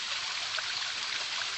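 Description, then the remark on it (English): Water splashes and rushes steadily from a huge stone fountain, a continuous bright hiss of falling water with no pauses, fairly soft in level and with no voices. “And there's this huge stone fountain. I mean, you'd still call waterfall.”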